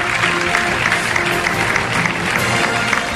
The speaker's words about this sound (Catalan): Un aplaudiment per ell. Ara li farem entrega del premi.